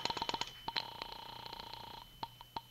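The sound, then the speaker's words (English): A telephone being dialed to call the landlady at Carlton Apartments: a quick run of short electronic keypad beeps, one longer held tone, then a few more spaced beeps, clear with no one talking. “I'll phone the landlady.”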